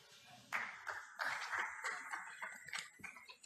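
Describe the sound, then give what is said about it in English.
A crowd breaks into applause after a speech, a dense patter of many hands clapping at once that starts abruptly and carries on steadily, with no voices. “Well, now that was a rousing bit of applause for that speech.”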